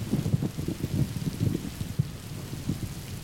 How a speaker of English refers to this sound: It started to rain, and we decided to take the kids and go eat pizza until it stopped. Well, it didn't stop. It just got progressively worse.